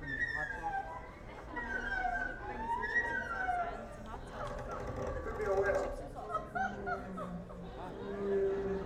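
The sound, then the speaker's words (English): A voice imitates seagulls as one of a set of nautical imitations, with a run of high, wavering squawks and cries rising and falling in pitch, set against a low background murmur of chatter. “Seagulls.”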